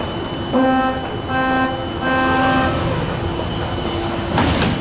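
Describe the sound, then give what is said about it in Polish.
Underground metro station ambience with a train moving through: a steady, fairly loud rumble overlaid by repeated electric whining tones, no voices. “Zawsze się spotykacie tutaj na stacji metra?”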